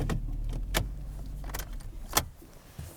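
A car is being parked in the dark, below freezing, about 200 yards from a sage-grouse lek: a low engine rumble runs steadily underneath while several sharp clicks and a jingle of keys break in at irregular moments. No one speaks.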